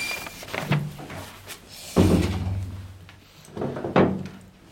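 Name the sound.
door being closed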